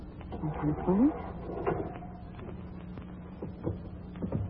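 A heavy mausoleum door in a cemetery creaks open, with a short rising squeal of the hinges followed by scattered clicks and scrapes over a low, steady hum.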